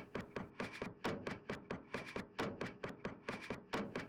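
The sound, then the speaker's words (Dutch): A class standing behind their chairs pushes them in against a table, many overlapping wooden knocks and thuds in quick, irregular succession, moderately loud, with no voices. “Je staat op voor je stoel, gaat achter je stoel staan en schuift je stoel tegen de tafel.”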